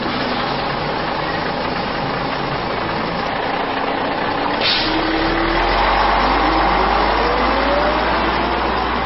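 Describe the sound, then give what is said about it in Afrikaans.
A heavy bus engine rumbles steadily as the bus arrives, with a brief hiss like an air brake midway, then the low engine note swells and settles into a loud idle. No one speaks. “Maar wag, daar kom my bus.”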